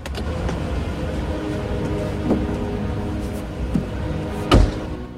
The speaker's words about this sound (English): Art slows up. Simon? Simon? Art gets out of the car.